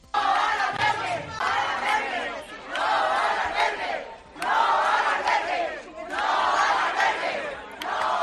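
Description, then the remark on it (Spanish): A group of residents in the Cerro del Águila neighbourhood shouts "No al albergue" in unison while interrupting the pregón de la vela, the chant repeating in loud rhythmic bursts about every one and a half seconds with brief dips between. “En el Cerro del Águila, un grupo de vecinos irrumpía anoche en el pregón de la vela con estos gritos.”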